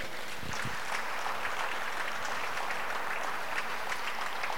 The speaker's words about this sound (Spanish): Aplaude, por favor, y vamos adelante.